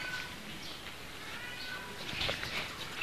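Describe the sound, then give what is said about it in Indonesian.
A cat meows, its drawn-out calls rising over a steady background hiss, with a slightly louder cry near the end. “apa tuh? Kucing. Wah, kucingnya lagi cari pacarnya.”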